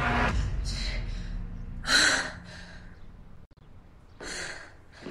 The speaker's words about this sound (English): He stands in the doorway as she turns towards it. She gasps and holds her heart.